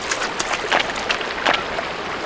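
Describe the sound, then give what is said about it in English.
Footsteps wade through water in a steady rhythm, each step a splashy slosh, about four or five in quick succession over a constant watery wash, with no voices. “So now we're, I guess, wading through some water, I think this may describe it.”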